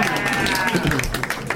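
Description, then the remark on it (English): A short burst of audience applause for the movie Orange County, many hands clapping in a dense, steady patter with some voices mixed in, fairly loud throughout and fading slightly toward the end. “That's the first time that movie has gotten a round of applause.”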